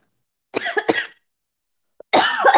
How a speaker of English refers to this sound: My cough.